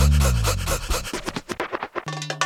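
A dog pants rapidly and loudly, quick rhythmic breaths that loosen into a more ragged pattern, ending with a brief whine-like tone.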